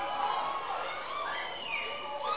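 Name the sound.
audience shouting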